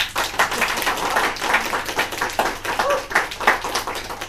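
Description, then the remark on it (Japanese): A crowd breaks into steady applause after a speaker's self-introduction, many hands clapping in a dense, crackling wash that holds at a fairly loud level throughout, with no voices standing out. “ちょっとあのいつもあのやるやつがあるんですから、ちょっとそれをやらさせていただきたいので、自己紹介の後に盛大な拍手をお願いしたいと思います。”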